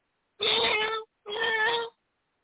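animal, cat meowing

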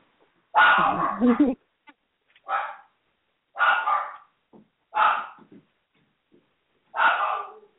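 animal, puppy barking

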